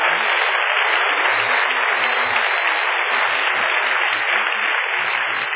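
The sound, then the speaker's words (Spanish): A crowd applauds steadily and loudly, a dense wash of many hands clapping together without pause, sustained at an even level throughout with no voices standing out; an audience giving applause to Jesus Christ after a time of prayer. “Dale un aplauso a Jesucristo, hombre.”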